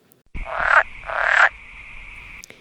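Two loud frog croaks, each a raspy buzzing call lasting about half a second, separated by a short pause, with a steady faint whistle-like tone continuing underneath.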